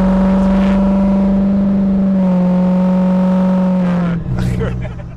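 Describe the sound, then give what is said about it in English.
A diesel pickup truck engine runs loud with a steady, throaty drone, then revs and shifts pitch near the end before settling into a rough rumble. “You and Calvin, it's this truck.”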